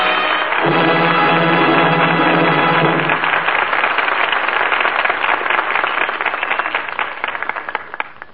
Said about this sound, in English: That applause is the seal of approval on tonight's play, and the fine performances of the four players who return now to this microphone.